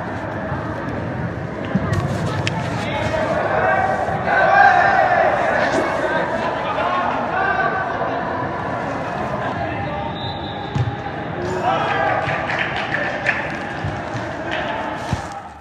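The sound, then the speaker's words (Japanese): Sounds of an amateur soccer tournament match in play: scattered thumps of the ball and footsteps under a steady wash of players' shouts and calls, continuous and fairly loud throughout. “少し試合の様子を聞いてみてください。”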